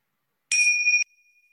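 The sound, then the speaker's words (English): A single meditation bell is struck once after a moment of silence to start a meditation sit, a bright, clear tone that rings on and slowly fades, heard alone with no voices. “So I'll start us with some bells and we'll go from there.”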